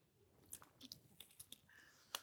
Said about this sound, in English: I'm going to put this water down and I'm going to express gratitude for you bearing with me as you listen to me drink.